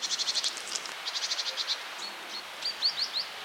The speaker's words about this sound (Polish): Sikorka bogatka gdzieś tu szeleściła, potrafi też popiskiwać, oczywiście.